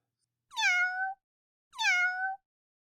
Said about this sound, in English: "Bless the bumps on a toad!" shrieked the old witch. "What was that?" "It sounded sort of, well, like a kitten," faltered Shadow.